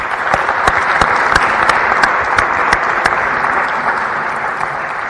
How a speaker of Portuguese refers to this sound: e acho que essas pessoas também merecem um agradecimento, merecem um aplauso de toda a gente. Por isso, peço-vos uma salva de palmas a todos que aqui estamos.